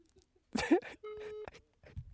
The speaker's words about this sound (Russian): А гудки слышно, как идут? Поставил. Вот, слышно.